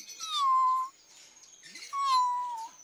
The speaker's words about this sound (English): A kitten.